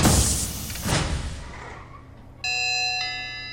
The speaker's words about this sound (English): The moment you get out, you smell that wave of ozone, and you hear sounds from the office door as they seal shut.